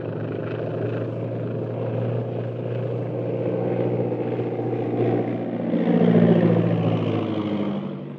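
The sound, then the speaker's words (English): A big silver propeller plane drones overhead as it comes down, being guided in by radio, its steady engine hum swelling louder toward the end before easing slightly, with no voices. “If we weren't in radio communication with Yangtze at this very moment, guiding him down, I'd swear it was a government scout plane on patrol duty.”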